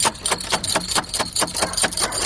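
Steady, rapid knocking on the front door in the middle of the night, about ten sharp raps evenly spaced over a couple of seconds, each hit crisp and fairly loud, with no voices.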